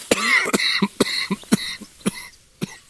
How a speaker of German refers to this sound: So, jetzt zum Schluss nochmal ein Hustenanfall. Das ist super. Ah, alles für die Kunst und live. In dem Sinne, sofort keine Luft mehr.